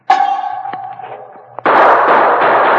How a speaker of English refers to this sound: Three guns fired at the sound, and the sergeant fired at the gun flash.